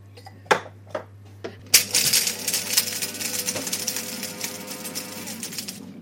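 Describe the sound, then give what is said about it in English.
A few sharp clicks, then a coffee grinder starts up: a loud, steady motor whir with gritty crunching and rattling as beans are ground, running on without pause and with no talk. “So now what we'll do is we will grind them up.”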